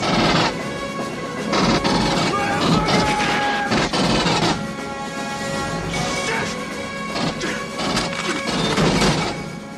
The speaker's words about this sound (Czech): No a teď si pustíme vetřelce, kde je ta hudba na podkresu toho, že tam pobíhají po lodi a honí vetřelce s rotačními kulomety.